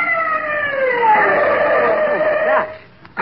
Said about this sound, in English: My gosh, what is this? It's an ambulance. Stopping here.